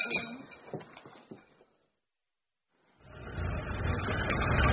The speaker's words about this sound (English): you go back the truck against the door.